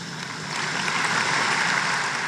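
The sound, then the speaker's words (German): Scattered clapping from party delegates during a speech by Angela Merkel, a steady, fairly thin patter of hands rather than a roaring ovation, holding at an even level for a couple of seconds with no voices. “Der Beifall fällt etwas spärlicher aus an dieser Stelle.”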